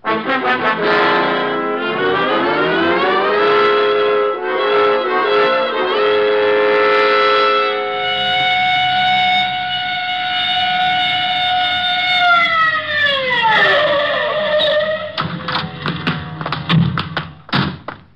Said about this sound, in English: All right, Otis. You can use the siren.